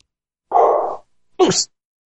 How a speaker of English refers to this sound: I don't know why my dog's going nuts, but he is. He's a dog, and they do that.